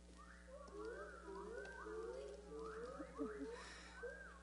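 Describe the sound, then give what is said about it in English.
Several voices imitate a whippoorwill call, repeating whistled, swooping phrases over and over in a steady rhythm that overlaps into a moderately loud chorus. “Good job, guys. Nice work on that whippoorwill.”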